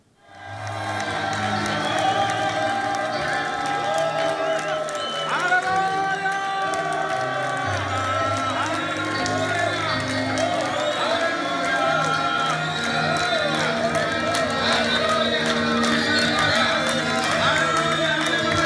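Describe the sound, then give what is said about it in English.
A large church audience shouts praise to the Lord together, many overlapping voices forming a loud, unbroken roar with rising whoops and wavering cries, sustained at steady intensity for nearly twenty seconds. “And I promise them, I will video you today shouting praise the Lord, and we will see if the American are shouting stronger or the African.”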